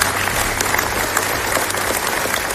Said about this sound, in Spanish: Son los aplausos que han roto el minuto de silencio por este pequeño que se ha guardado a mediodía en la Diputación de Toledo.